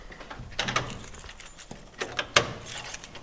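Metallic clicks and rattles of a lock being worked as someone opens a door for visitors on a Sunday, followed by the door opening. A few sharp clunks and scrapes stand out over quiet background, with no one speaking.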